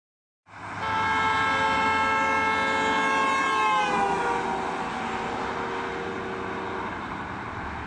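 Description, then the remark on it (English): A car horn blares continuously for about seven seconds as the car, moving at speed along a road, passes a listener standing at the roadside, its pitch dropping noticeably midway through, then fading slightly as it moves away. No one speaks. “As the car passes me, it's going to blow its horn.”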